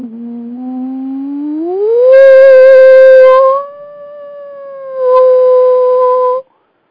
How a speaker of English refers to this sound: Try to do a very smooth frequency sweep. And when you hit the frequency of your shower, it will get louder, somewhat like this.